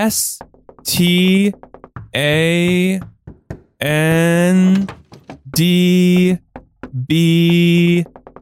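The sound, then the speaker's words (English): Sharp knocks tap out Morse code spelling "stand back" in irregular clusters of short and spaced raps, falling in the pauses between loud, sustained wavering tones that come in long swells. “Morse code. I think it's”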